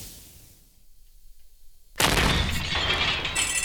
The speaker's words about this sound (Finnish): Nyt sieltä kuuluu räjähdys.